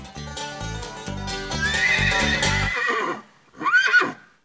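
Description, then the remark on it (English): Rhythmic hoof-like clopping under a bright, busy musical sting, then a brief pause and a loud horse whinny that rises and falls, introducing the "Let's Beat a Dead Horse" game segment. No one speaks. “And now it's time to play the Let's Beat a Dead Horse game.”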